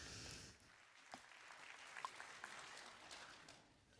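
A crowd claps steadily, a dense wash of many hands with a few sharper claps standing out, fairly close and sustained for several seconds before tapering slightly.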